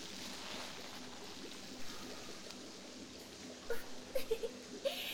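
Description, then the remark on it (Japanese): Bath water sloshes and churns steadily in a foamy hotel jet bath as bubble-bath additive builds up foam, a continuous wash of splashing with a few louder sloshes and small plops near the end, no voices. “あれ？どんどん泡が。あ、それ泡風呂の入浴剤ですね。”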